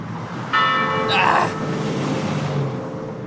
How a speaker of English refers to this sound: I'm walking away from the church bell.